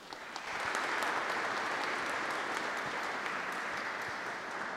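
An audience at the National Sanctuary of Saint Joseph in Kalisz, Poland, claps steadily to welcome a guest speaker, a dense crackle of many hands that swells in within the first second and holds at an even, fairly loud level throughout, with no talking over it.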